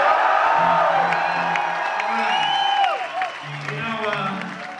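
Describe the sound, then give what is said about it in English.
A large crowd at a show in Glasgow cheers and applauds loudly and continuously, with rising whoops and shouts over steady dense clapping throughout, easing slightly near the end. “And well, you know, before you all cheer, for those of you who've seen us before or are into it, we don't usually talk about places that much.”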